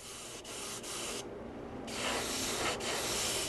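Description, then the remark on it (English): Steady, loud hiss of spray paint as workers spray-paint huge, colorful Mardi Gras parade floats at Kern Studios in New Orleans, broken by a few brief pauses and one longer gap before the spraying resumes, with no voices. “Here at Kern Studios in New Orleans, workers are already spray-painting the huge, colorful Mardi Gras parade floats.”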